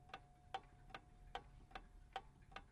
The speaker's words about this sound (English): A clock becomes something in a home that's very soothing. It's not like a fire engine going past the front door. There's something very soothing about the constant tick-tock, tick-tock.